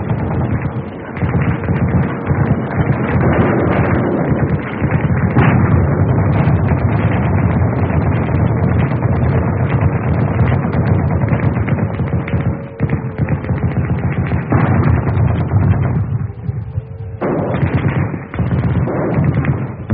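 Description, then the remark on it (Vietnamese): Heavy rain pours steadily while rapid gunfire crackles and deep booms of bombs, rockets and thunder roll through during a storm and air raid on Hanoi, heard from a prison cell; a loud, dense, unbroken din with no voices. “Tiếng sấm, tiếng sét, tiếng bom, tiếng súng, tiếng tên lửa, tiếng mưa rơi, rối rít tích mù.”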